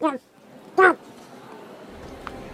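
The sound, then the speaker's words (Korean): A singer on an opera stage, in the middle of a duet with Faust, lets out two short, harsh croaks like a toad, fairly loud, spaced about a second apart, followed by a faint hiss. “갑자기 노래를 부르고 있던 카를로타의 목구멍에서 두꺼비 소리가 튀어나왔다.”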